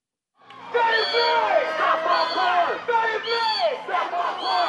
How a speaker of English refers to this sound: That's a crowd in Sacramento, California this past spring chanting the name of an unarmed black man killed by police.